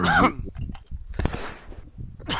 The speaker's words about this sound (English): By the way, you hear this cough? You didn't cough New York cooter. I sure did. Luckily, it's just a cough.